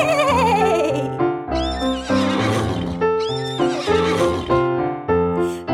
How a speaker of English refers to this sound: Let's go over and neigh with the horse. Neigh!